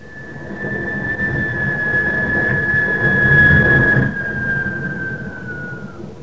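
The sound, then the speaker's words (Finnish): Train noise: a steady, heavy rumble with a sustained high whine running over it, swelling slightly midway and then sliding down in pitch at the end. No one speaks. “Siinä pullossa oli junamelua.”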